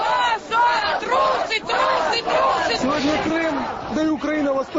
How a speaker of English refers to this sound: But beachgoers this year are encountering more than sea and surf in Crimea, as crowds of protesters have taken to the streets of several towns to protest against a series of military exercises involving NATO troops.